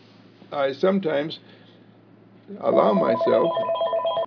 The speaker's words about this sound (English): Now, I could allow the telephone to distract me. I could allow the telephone ringing to distract me, to take me away from my chosen experience, to be self-disciplined.